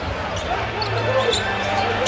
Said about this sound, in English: Dinwiddie for three. We are tied! I mean, just listen to that crowd. I mean, I wish it was a longer clip because at home, I got goosebumps. The crowd went wild from that big three.